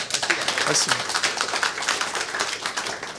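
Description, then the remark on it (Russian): An audience applauds a presentation by the company Ugarokon with a dense, steady crackle of many hands clapping at once, sustained at an even loudness for a few seconds without letting up. “Сейчас можно хлопать.”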